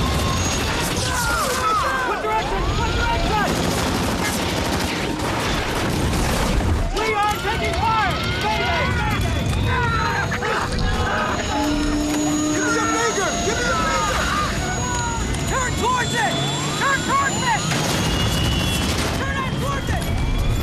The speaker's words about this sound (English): Shots penetrate the inside of the helicopter. Soldiers fall. The chopper swings crazily.